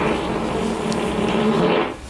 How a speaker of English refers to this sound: Yeah, that is a fart. A whiz popper.